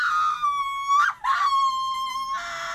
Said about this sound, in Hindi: भय आतंक और दर्द से सुरजी फिर चीख उठी।